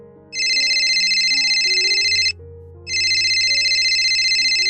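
A telephone rings loudly in two long electronic trilling bursts separated by a brief pause, with a low sustained tone underneath and no talking.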